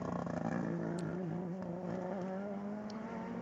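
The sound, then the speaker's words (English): The fourth-place United Autosport LMP2 race car, driven by Wayne Boyd, roars loudly as it goes by, a sustained buzzing engine whine whose pitch wavers slightly as it passes, with no voices over it. “the fourth place United Autosport LMP2 car, Wayne Boyd, he's just gone by.”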